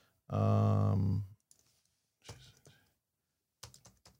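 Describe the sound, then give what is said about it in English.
A short hummed vocal tone, then two quick flurries of computer keyboard typing: crisp key clicks in rapid bursts with pauses between them. “Hear me typing.”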